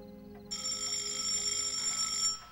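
A telephone rings with a bright, steady electronic trill that starts after a brief pause, holds for about two seconds and then cuts off, over a faint low hum.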